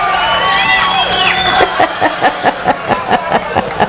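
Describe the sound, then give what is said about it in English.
An applause sound played as intro music on a radio station: an audience whoops and cheers with high, sliding voices, then breaks into steady rhythmic clapping, about four claps a second, fairly loud to the end. “We have a nice applause for you.”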